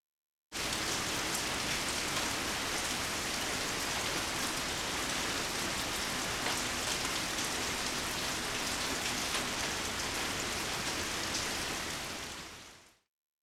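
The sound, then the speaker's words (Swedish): Heavy rain pours down during a thunderstorm in a steady, dense hiss with constant crackling drops, loud, continuing unbroken for over ten seconds before cutting off. No voices are heard. “Usch, vad det regnar.”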